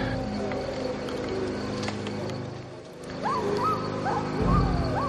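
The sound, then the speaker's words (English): Wolves growl and bark, with a few short rising yelps in the second half over a steady low rumbling background; moderately loud, no voices. “Yep, there's a wolf.”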